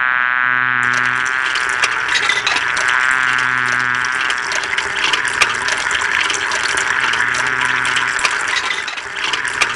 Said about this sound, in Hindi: फातिमा बर्तन धो रही है